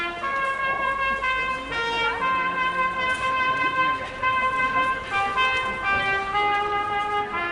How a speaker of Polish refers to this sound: Na słynnej ulicy Piotrkowskiej w samo południe przywitają nas dźwięki łódzkiego hejnału, prząśniczki Stanisława Moniuszki. Grają trębacz wprost z okna Urzędu Miasta Łodzi.